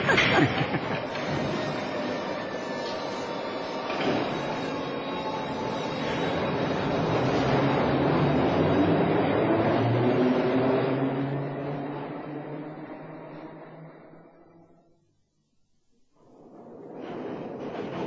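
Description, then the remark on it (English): An underground train roars through a tunnel, a loud, sustained rumble and rattle with whining metallic tones, dropping away briefly near the end before the clatter picks up again. “Hurtling along like this underground.”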